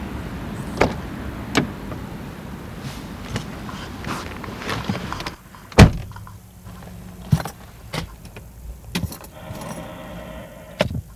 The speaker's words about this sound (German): wenn er sich nach einem langen Tag in den alten Mercedes seines Opas setzt.